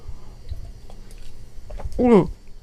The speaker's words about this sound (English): So I used to think that, let me have a sip of water.